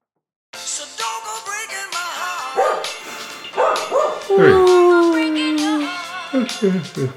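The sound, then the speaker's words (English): A dog barks and yips in quick, excited bursts, breaking into a long drawn-out whine in the middle before the short barks resume. “You gotta walk the dog.”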